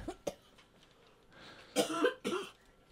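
coughing

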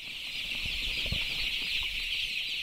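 chickens clucking

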